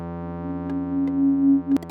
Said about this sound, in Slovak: Toto je štít. Ten súvislý tón, ktorý sme počuli. Štít sa nám zíde, ak do nejakej prekážky nechtiac narazíme, tak jednu prekážku nám jeden štít eliminuje.